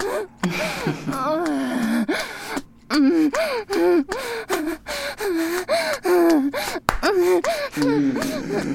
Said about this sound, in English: Or those helpless, gasping, desperate noises were fucking out of her.